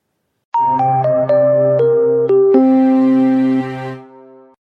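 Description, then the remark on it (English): A stock exchange bell, rung in New York at 9:30 a.m. Eastern Daylight Time in a bell-ringing ceremony to start trading, rings out a quick descending run of about seven bright, chiming notes, settling on a lower sustained tone that slowly fades, with no voices present. “Trading began on the London Stock Exchange this past week at 8 a.m., local time, and it commenced in New York at 9:30 a.m. Eastern Daylight Time following a bell-ringing ceremony.”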